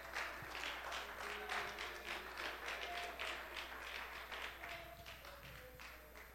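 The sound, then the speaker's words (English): A standing audience claps steadily for several seconds, a dense, continuous patter of many hands, with faint voices and tones lingering underneath. “If you'll clap your hands and lift your voice, you may be seated.”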